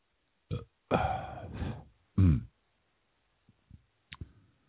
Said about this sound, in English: Burp.